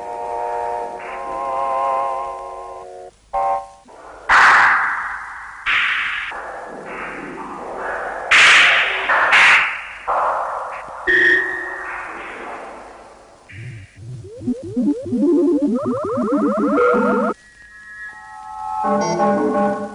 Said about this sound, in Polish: Tutaj zmieniają się w konkret najśmielsze pomysły twórców muzyki konkretnej. Słyszymy w tej chwili jedno z tych nagrań. Na stereofonicznych magnetofonach ze skrawków taśmy montaż ilustracji dźwiękowej dla radia, filmu, telewizji.